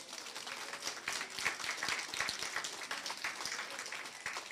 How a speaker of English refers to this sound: And I'm glad we did give a round of applause, because if you look around and you see the work, the hard work that people have done, is really very, very impressive indeed.